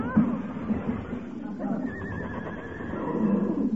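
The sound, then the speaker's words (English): A runaway horse whinnies loudly and shrilly, its wavering high-pitched neigh rising over a rumbling, busy background for a couple of seconds. “Heavenly days, a runaway horse in this day and age.”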